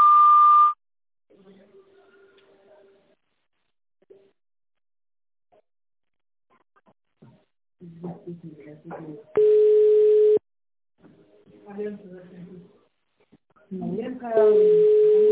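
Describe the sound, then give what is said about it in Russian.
A steady telephone beep opens on a sanatorium's phone line, then an automated voice speaks between loud, sustained lower line tones, one lasting about a second mid-way and another starting near the end. “После длинного сигнала переведите ваш аппарат в режим тонального набора и наберите внутренний пятизначный номер.”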